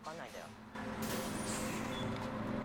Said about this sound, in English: Hero heads off towards a bus that has just pulled in, ignoring Ando's pleas.